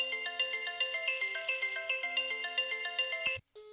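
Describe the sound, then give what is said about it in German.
A landline telephone in the living room at home rings with a bright electronic melody, quick stepped tones repeating in a steady pattern for a few seconds before cutting off abruptly, as a call comes in from another landline phone. No one speaks. “Da wird jetzt wahrscheinlich auch gleich im Hintergrund noch das Telefon aus dem Wohnzimmer bimmeln.”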